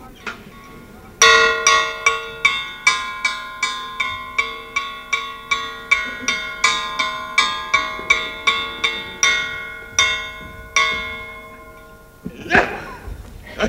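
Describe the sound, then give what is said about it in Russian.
A bell clangs rapidly and steadily, about two strikes per second, each bright metallic tone ringing on and overlapping the next, for roughly ten seconds before a brief rustling noise at the end. “Давай звон.”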